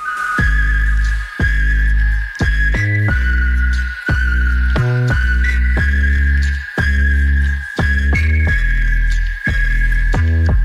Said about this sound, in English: And now the singer just teased her upcoming album, sharing a short clip of herself whistling in the studio. Take a listen.